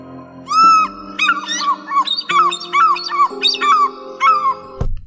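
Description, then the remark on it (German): A white-headed bird gives loud, gull-like screeching calls, a quick run of shrill, wavering cries repeated in bursts, with no talking, ending in an abrupt click. “Ja, und an was erinnert dich das Geschrei ein bisschen? Wenn man jetzt mal an deinen letzten Nordseeurlaub denkst. An Möwen.”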